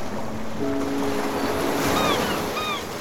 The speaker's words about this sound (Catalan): El viento, el agua y el mar también.